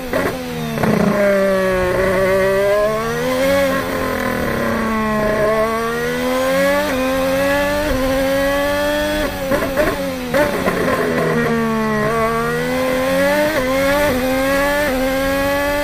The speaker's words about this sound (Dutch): Eerst even hoe die Honda klinkt in kwalificatiemodus. Oh. Die gaan we nu even horen.